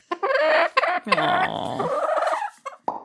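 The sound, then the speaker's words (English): A chicken sitting on a person's lap clucks and squawks loudly near a microphone, a run of strained, throaty calls with short pauses between them and no talking. “came back in, had a chicken on their lap. Yeah. The chicken said hello.”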